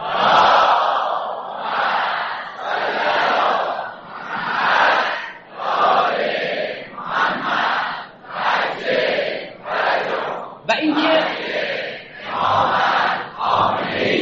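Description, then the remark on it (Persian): An audience applauds in honour of their parents, then chants a salawat blessing for their parents' health together in loud, rhythmic unison, the massed voices rising and falling in steady phrases. “لذا به افتخار پدر مادرتون یک کف مرتب بزنید و برای سلامتیشون یه صلوات قرآن بفرستید.”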